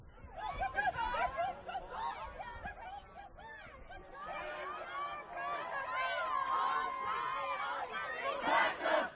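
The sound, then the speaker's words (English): A large crowd of protesters in front of the Supreme Court building shouts and chants together, saying "Abortion saves lives", a dense, loud wall of overlapping voices with shrill high-pitched yells rising above it, swelling louder near the end. “And see the screech owls protesting in front of the Supreme Court building?”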